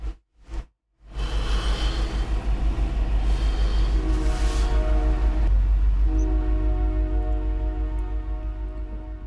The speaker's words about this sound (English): And a train's coming.